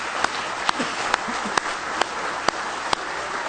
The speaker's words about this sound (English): Oh, give Him a big hand clap of praise tonight if you love Him.